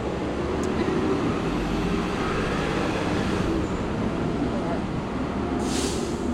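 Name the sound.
trucks driving by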